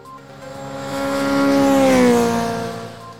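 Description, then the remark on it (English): A small, moped-like engine revs up, its buzzing pitch climbing as it swells loud, then eases off slightly toward the end. No voices, just the engine for a few seconds. “Was that a go pet? I don't know what it was. I just thought we need to get to Colorado quickly. Or a moped.”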